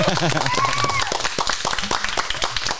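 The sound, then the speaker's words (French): Audience applause, a dense patter of irregular claps at steady loudness, with raised voices and cheering mixed in at the start before the clapping takes over. “Oui, on peut l'applaudir”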